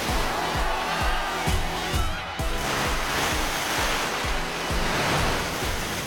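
A loud, continuous roar of rushing surf, with churning water and low, rhythmic thuds recurring about twice a second under the spray.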